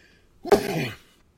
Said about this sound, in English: I knew I was going to sneeze.